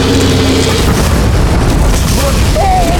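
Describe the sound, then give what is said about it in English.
A thrown explosive stick explodes with a loud roar and a thick, sustained rumble that fills the whole three seconds. It never drops away, and faint whistling tones rise through the noise near the end. “Arlen ducked behind his shield as the night lit up with a roar and the shockwave of heat and force bowled him over, nearly knocking Arlen from the escarpment.”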